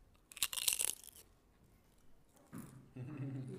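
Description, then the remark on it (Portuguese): A loud burst of crispy crunching from biting into potato chips, several sharp crackles packed into under a second, followed by a quiet pause and then someone starting to talk. “Olha, sente essa crocância.”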